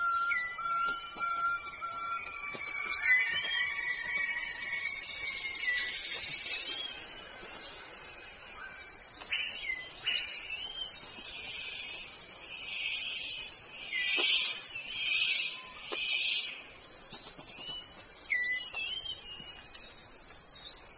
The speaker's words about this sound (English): The superb bird of paradise calls to attract a female.